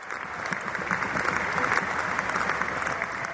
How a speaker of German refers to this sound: Den tosenden Jubel und Schlussapplaus unterbricht die sonst so spröde …, um gerührt und mit Tränen in den Augen dem Publikum zu danken.